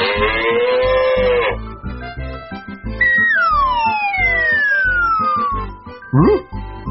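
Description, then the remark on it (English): A drawn-out, cartoonish cow moo sounds over a bouncy rhythmic backing track, followed by long sliding whistle-like tones and a short rising squeak near the end. “Not me, said the cow.”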